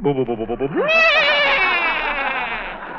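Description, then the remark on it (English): A voice imitates a horse whinnying, as Bing Crosby's horse in a movie stars' stable: a quick fluttering burst that swoops up into a loud, high, quavering cry, then slowly trails off over about three seconds, alone. “Oh, then that must be Bing Crosby's horse in there.”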